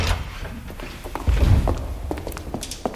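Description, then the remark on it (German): A door is carefully eased open by three people sneaking to it, with quiet clicks and a soft, muffled low thud partway through, fairly subdued, with no one talking. “Die drei warteten noch ein paar Minuten und dann schlichen sie zur Tür und öffneten sie vorsichtig.”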